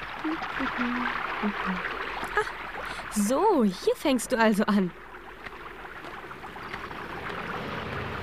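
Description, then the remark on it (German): A steady rushing of water from a small brook gurgling down a mountainside runs continuously throughout, with a man speaking briefly over it partway through. “Du kommst dir so lustig den Berg heruntergegurgelt.”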